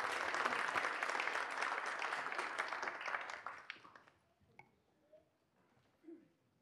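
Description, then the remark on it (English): A church audience gives a round of applause for the assistants, a dense crackling wash of clapping from many hands that holds steady for about three seconds, then thins out and fades, leaving a few scattered claps and quiet murmurs. “Give everybody all the beautiful assistants a round of applause.”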